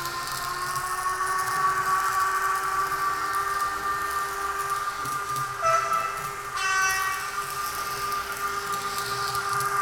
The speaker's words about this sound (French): voilà, ils ont même mis le bruit de la locomotive.